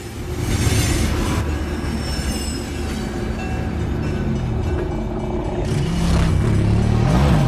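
A train rumbles steadily past a level crossing, its wheels clattering and squealing over the rails, with a loud, continuous roar that swells again near the end.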